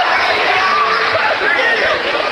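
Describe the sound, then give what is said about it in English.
A large basketball crowd roars in a dense, continuous wash of voices, with scattered shouts and jeers rising out of the noise, sounding unhappy throughout after a disputed referee call leading to a jump ball. “You can hear the crowd. They're not too happy.”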